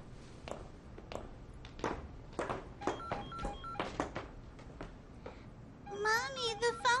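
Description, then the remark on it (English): A house telephone rings with a warbling electronic trill that starts near the end, after a run of sharp tapping clicks. The ring is moderately loud. “Aren't you gonna answer it? You should only answer the phone at your house.”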